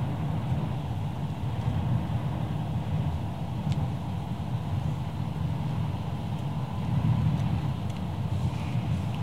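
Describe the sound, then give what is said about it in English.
A steady, low rumble of road noise from inside a moving car, with traffic following behind, a constant engine and tire drone and a faint wind hiss, and no voices. “I'm gonna piss off all this traffic behind me, but I don't care.”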